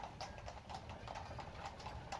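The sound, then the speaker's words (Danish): Horse hooves clip-clop steadily on cobblestones, a regular walking rhythm of sharp knocks over a low rumbling background, continuous throughout. “Nu kan jeg høre hestehovene mod brostenene.”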